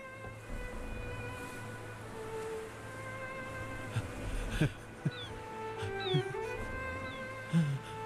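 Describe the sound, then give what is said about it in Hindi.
A steady, whining buzz of swarming mosquitoes hums throughout, with a few faint knocks and brief rustles rising over the constant drone. “मच्छरों से भरा हुआ है।”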